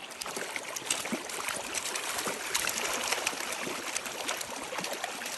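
Steady rush of flowing river water close by, with small splashes and trickles breaking through as something is let go into the current; no voices.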